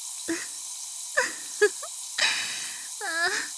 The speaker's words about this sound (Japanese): どうですか、強炭酸の聞き心地は。